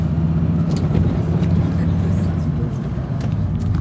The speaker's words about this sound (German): So, ich hoffe, das Auto ist jetzt hier nicht zu laut.